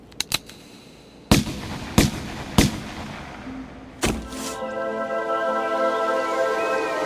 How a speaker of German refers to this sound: Peng. Ein Schuss. Ich erinnere mich an einen Schuss.